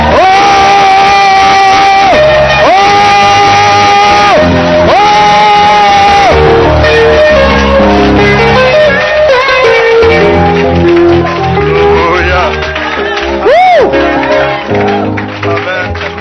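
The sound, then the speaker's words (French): A loud audience at a church service erupts in sustained shouts and joyful cries acclaiming the Lord Jesus, many voices overlapping in long rising and falling calls, with whoops and exclamations continuing steadily throughout. “Est-ce que tu peux pousser les cris de joie?”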